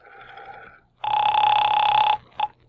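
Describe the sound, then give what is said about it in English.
A telephone bell rings: a softer ring first, then a loud, steady, buzzing ring lasting about a second, followed by a brief clipped burst. No one speaks. “Well, there's the phone.”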